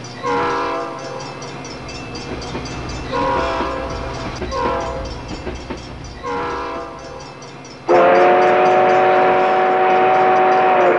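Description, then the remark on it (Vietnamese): A train sound effect opening the 12 o'clock music program on FM 91 MHz, the traffic channel of Voice of Vietnam radio: a train rumbles and clatters with several short horn blasts, then a loud, sustained multi-tone train horn blares steadily through the final few seconds, with no one speaking. “Xin mời quý hành khách nhanh chóng lên chuyến tàu FM 91 MHz để cùng bắt đầu chuyến hành trình cùng âm nhạc 12 giờ.”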